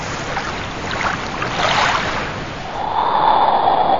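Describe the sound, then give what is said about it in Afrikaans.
Turbulent water of the Sea of Galilee churns and splashes steadily at night under a blustery headwind, the sea growing very rough, with a broad rushing roar that swells midway and then settles into a steady windy hiss. “Die wind was van voor en die see het baie onstuimig geword.”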